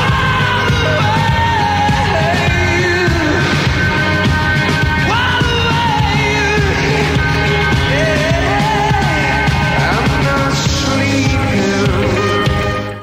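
Loud live rock music plays without pause at the Live Aid concert before a huge crowd: a full band sustains dense, ringing chords while a singer's wavering voice soars over them, with faint crowd shouts mixed into the wash of sound.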